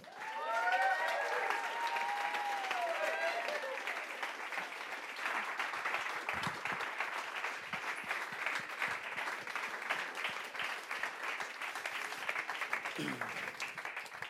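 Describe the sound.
Sustained audience applause, a dense wash of many hands clapping steadily for the whole stretch, with a few cheers or voices rising briefly near the start.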